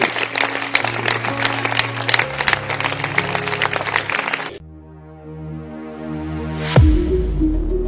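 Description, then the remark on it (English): An audience at a church service claps hands in a dense, steady burst of applause over a sustained musical tone, answering a preacher's call to clap during a sermon. After about four seconds the clapping stops, leaving a held chord that ends with a sharp swoosh. “Can you clap your hands? Clap your hands.”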